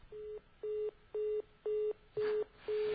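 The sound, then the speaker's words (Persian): A telephone busy tone after a viewer's call to a TV call-in program is cut off: six steady, evenly spaced beeps repeating in a regular on-off rhythm, fairly loud over a faint background hiss, with no one talking. “بسیار خوب، تلفن این دوست بزرگوارمون قطع شد و نتونستیم دیگه از صدای گرم ایشون و نظراتشون استفاده بکنیم.”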